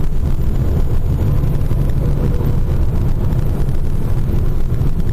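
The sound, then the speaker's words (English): Heavy trucks roar past on a highway, coming up from behind, a loud, steady low rumble mixed with buffeting wind noise that fills the whole stretch without a break. “Here comes some trucks screaming up behind me.”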